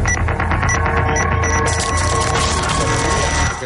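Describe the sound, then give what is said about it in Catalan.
A clock rings with a loud, continuous mechanical ringing with a rapid metallic trill, like an old alarm clock bell, sustained steadily for several seconds over a dense low rumble. “Atenció, i aquest rellotge? Què me'n diu d'aquest rellotge?”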